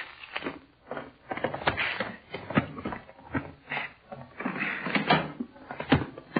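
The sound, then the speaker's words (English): A door is unlocked with keys and opened: a run of sharp clunks, rattles and scrapes from the latch and handle, fairly loud, with no talking. “All right, go ahead and open the door, Sodov.”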